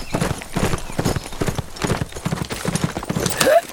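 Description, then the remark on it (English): A horse gallops, its hooves pounding out a loud, rapid, steady rhythm of clip-clop beats that continues throughout, with no one speaking. “Before Bones could yell for him not to leave the group, the rich, spoiled Spaniard had spurred his mount and gone at a gallop.”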